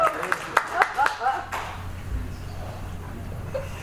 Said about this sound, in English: Sweet clap.